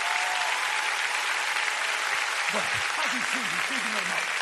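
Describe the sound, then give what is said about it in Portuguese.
A large audience applauds loudly for the Lord Jesus, a steady, dense wash of clapping throughout, with a few voices calling out underneath in the second half. “Se você vai aplaudir, faça isso bem alto para o Senhor Jesus.”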